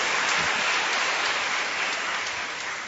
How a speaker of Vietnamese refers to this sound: Chúng ta trong một tràng pháo tay gặp gỡ một chính nhân này.